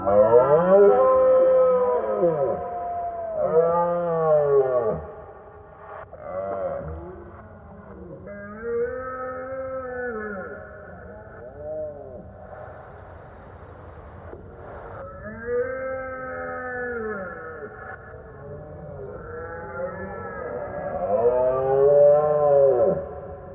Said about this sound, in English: particularly, I think that sound of the roaring deer